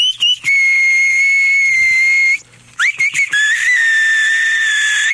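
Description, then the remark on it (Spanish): A shrill, electronic-sounding battery-powered keychain whistle (llavero chiflador) sounds in two long, steady tones, broken by a brief pause. The second tone swoops up at its start. Short chirps come at the edges. Loud, with no talking. “Con su llavero chiflador, usted puede relajarse haciendo, mientras otros escuchan una bella sinfonía de viento.”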